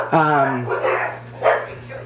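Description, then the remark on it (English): Dogs on a patio bark sharply once at a passer-by, then more barking and yelping follow in a short, agitated burst, over a steady low hum and faint voices. “My mom's on the patio with the dogs, and somebody's walked by like some killer asshole. So my dogs are freaking out.”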